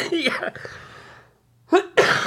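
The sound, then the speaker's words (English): A burst of harsh coughing, then a brief quiet gap before two more loud, rough coughs in quick succession. “Dude, muted it after you were done coughing.”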